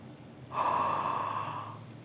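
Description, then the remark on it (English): A single long, airy breath, a deep yawning inhale easing into a relaxed sigh as in the yawn-sigh vocal technique, lasting just over a second with no talking. “And the yawn inhalation creates a wide open airway. And as you exhale, the sigh that follows produces a very relaxed voice, primarily because the vocal tract is still wide open.”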